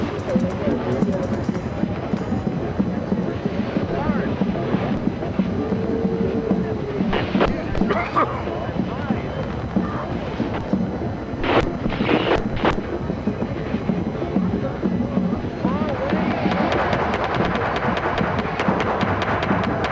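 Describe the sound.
A deep, continuous roar of rocket engines at liftoff rumbles steadily for the whole stretch, with a crowd's voices and cheers rising over it toward the end.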